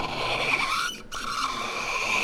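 A cork squeaks and creaks in a shaker: a steady, high-pitched squeal with a brief break in the middle, then it resumes just as strongly. No voices are heard.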